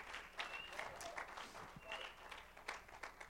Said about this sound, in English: Oh, somebody needs to clap their hands.